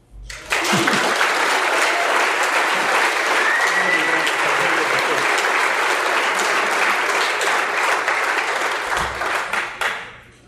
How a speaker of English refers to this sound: Well, thank you. I guess I can sit down. I have the applause.